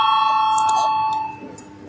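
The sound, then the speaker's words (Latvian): A parliament voting bell rings before a vote on Deputy Tavars's proposal, with a steady, bright electric tone full of high overtones, holding for about a second before cutting off and fading into a low murmur of the chamber. “Lūdzu zvanu, balsosim par 7. deputāta Tavara iesniegto priekšlikumu.”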